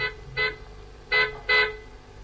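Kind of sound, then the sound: vehicle, car horn honk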